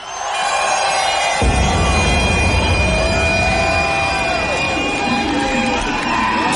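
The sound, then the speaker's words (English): A loud, dense club crowd at Scream in Plymouth roars and cheers continuously for a DJ during a live Radio 1 broadcast, with whoops and shouting layered over a steady wash of noise and booming low rumble underneath. “Put your hands together for ….”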